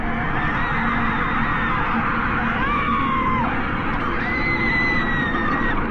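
Long, drawn-out anguished human screams that waver and slide in pitch, coming from a battery radio's speaker, rising out of a dense, steady wash of loud noise without any clear speech.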